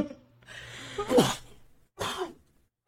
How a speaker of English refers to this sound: thought I just sneeze that thing off